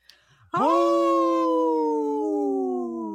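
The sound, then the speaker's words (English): A wolf lets out one long, sustained howl that starts abruptly and slowly slides lower in pitch, loud with no other sounds around it. “In this portion of the show, we like to support our United States wolves and bear populations.”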